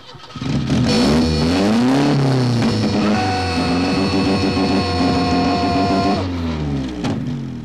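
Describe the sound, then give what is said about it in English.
In a John Hughes film scene, a car engine catches as a man starts the car and revs loudly, its pitch rising and falling for several seconds before settling into a steady idle and cutting off as he stops the car. No one speaks. “And then he starts the car and then he stops the car.”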